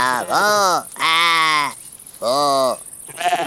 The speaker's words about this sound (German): Mann, sind das viele Schafe.